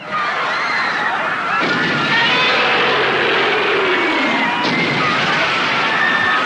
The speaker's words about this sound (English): There's been all kinds of stomping and screaming over the years. Here's Godzilla from 1985 terrorizing a crowd.